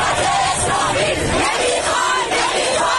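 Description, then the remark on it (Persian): A large crowd of protesters in Iran shouts slogans in unison against compulsory hijab and the Islamic government, a dense, loud roar of many voices with rising and falling chant-like swells throughout. “روسری می سوزانند، شجاعانه در برابر باتوم و شوکر و گاز اشکاور سینه سپر می کنند و فریاد می زنند حجاب اجباری و حکومت اسلامی نمی خواهند.”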